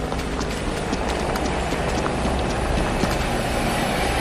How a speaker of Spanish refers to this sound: Estamos, no sé si se oye bien, pero hay un helicóptero sobrevolando muy cerca. Está volando muy, muy cerca, está muy bajo.